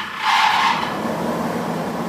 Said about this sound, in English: Once everything has been roasted, toasted, or fried, it's time to head to the central market to put the ingredients through an industrial-sized grinder about the size of a small refrigerator.